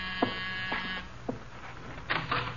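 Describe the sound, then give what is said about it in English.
A harsh, electric doorbell buzzer rings in one steady burst of about a second, with a few clicks mixed in, then brief rattling noises follow in the quiet. “The door, Archie. Yes, sir. I hear it.”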